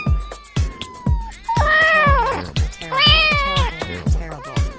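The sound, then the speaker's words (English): A cat named Mittens, stuck in a tree about 70 feet up in Bloomington, meows loudly twice, each call long, drawn-out and wavering, with a steady rhythmic beat pulsing underneath throughout. “It's hard to see at first, but a close look reveals Mittens, the cat, stuck in a tree about 70 feet up.”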